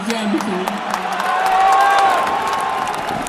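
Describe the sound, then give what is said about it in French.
A stadium crowd roars in a dense, steady wash of cheering, dotted with sharp claps and raised voices, swelling louder midway before easing slightly, as the stadium shouts Maradona's name while he appears on the pitch. “Qu'est-ce que je peux dire quand tu vois tout un stade qui crie ton nom comme ça?”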